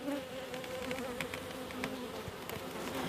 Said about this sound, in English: Glenn has lifted the lid up on one of the hives and has put one of my microphones in.